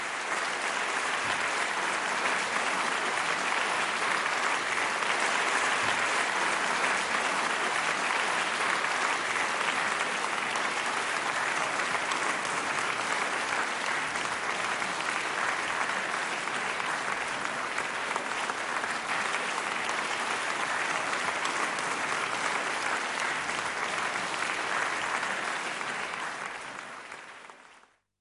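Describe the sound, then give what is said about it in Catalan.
Sustained applause from a crowd at 8 in the evening, in tribute to taxi drivers who gave free rides to and from hospitals, steady and dense clapping lasting nearly half a minute before fading out quickly at the end, with no voices standing out. “El nostre aplaudiment avui per vosaltres.”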